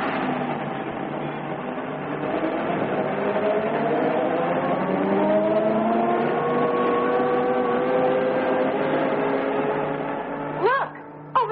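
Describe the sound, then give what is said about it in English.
An open truck carrying a party of passengers drives off along a bumpy trail; its engine drones steadily, the pitch climbing as it accelerates over rough ground, with a short clattering jolt near the end. “Wrapped in sweaters, the party clambered onto the open truck and drove off.”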